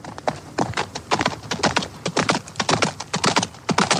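horse hooves clip-clopping

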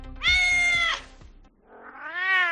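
stray cat meowing

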